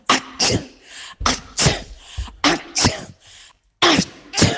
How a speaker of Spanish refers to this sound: nos dedica un cuádruple estornudo